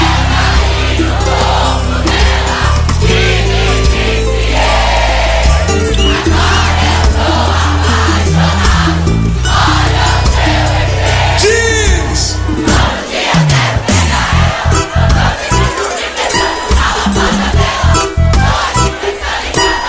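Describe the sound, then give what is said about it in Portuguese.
A large crowd yells and roars loudly without pause, many voices overlapping into a dense, sustained wall of shouting, with a few higher cries rising above it partway through. “aquele gritão gostoso, vai!”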